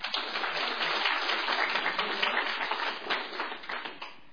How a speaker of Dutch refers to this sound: Nog even voor alle weetjes een applaus.